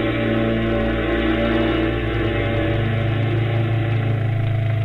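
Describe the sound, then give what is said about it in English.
A motorcycle with a sidecar runs, its engine holding a steady, loud, low throbbing drone for the whole stretch with no one speaking. “so you'll sit in the sidecar. I'm your driver. We're gonna ride right up to the beach”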